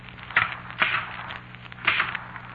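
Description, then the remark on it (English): A typewriter clacks out a few irregular keystrokes as it underlines words, sharp mechanical strikes with short pauses between them, over a faint steady hum and no voices. “See what it's doing? Underlining those words.”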